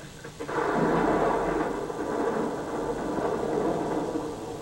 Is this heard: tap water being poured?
no